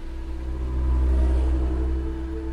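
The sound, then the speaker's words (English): A jeep's engine rumbles steadily, swelling slightly louder midway as the vehicle drives off towards Lake Tanganyika, with a low continuous drone and no voices. “I climb into his jeep and we head towards Lake Tanganyika.”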